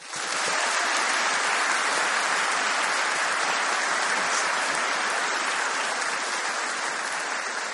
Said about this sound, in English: thank you for everyone who clapped that didn't know me, but I especially thank you for clapping if you do know me. I really appreciate that.